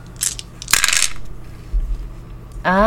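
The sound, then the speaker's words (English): Four dice, one red, one purple and two black, clatter onto a hard surface in a couple of quick, bright bursts of rattling, followed by a short pause and then a rising voice-like tone at the end. “It's going to be 1 red, 1 purple, and 2 black dice.”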